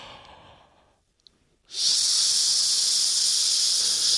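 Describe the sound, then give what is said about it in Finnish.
A long, steady, loud hiss of breath pushed out through the teeth during a relaxation breathing exercise, following a softer deep intake of air and a brief pause. “Seuraavaksi ota uudelleen suuri hengitys, mutta tällä kertaa päästä ilmat ulos pitkän sihinän kanssa.”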